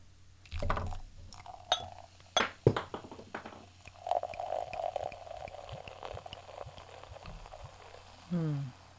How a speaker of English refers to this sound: So let's open this bottle of the Feiyu cider, the demi sec, right now. Whoa.